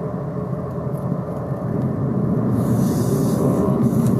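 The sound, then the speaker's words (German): Steady low rumble of a car driving in traffic along a detour, with engine and road noise droning continuously and growing slightly louder and brighter partway through; no one speaks. “Ich muss gerade ein bisschen auf den Verkehr achten hier und darauf, hier ist diese Umleitung oder ist eine Umleitung, noch nicht so lange fahre und da muss ich immer ein bisschen gucken, dass ich hier nicht verkehrt fahre”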